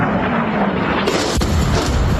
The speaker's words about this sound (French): C'est le son qui a marqué l'actualité cette nuit. Au moins 3 explosions comme celle-ci entendues dans le centre de l'Iran près d'Ispahan, moins d'une semaine après l'attaque de l'Iran en Israël.